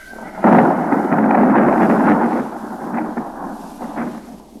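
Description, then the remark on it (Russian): A loud crack of thunder from an approaching thunderstorm with lightning breaks out suddenly and rolls into a long, heavy rumble that slowly fades, with a few softer echoing booms near the end. “Лишь бы не мимо, лишь бы и нас захватила эта гроза.”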